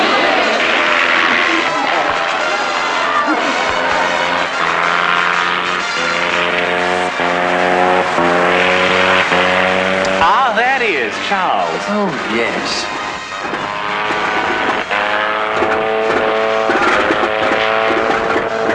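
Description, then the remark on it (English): A loud, sputtering airplane engine drones and coughs, its pitch wavering and sweeping up and down unevenly, while a couple of voices speak briefly over it. “I say, he's got a cough today, doesn't he? It's a wonder he can fly at all.”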